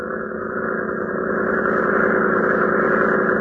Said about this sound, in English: Powerful motor throbbing. Red Cross cutter edges into the floodgate as the convicts switch to positions behind the crew members of Lois Lane.